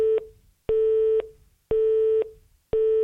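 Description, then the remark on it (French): A telephone busy tone beeps after a phone call ends, in a steady on-off rhythm, four half-second pulses of a single steady pitch, clear with no voices. “C'était qui au téléphone?”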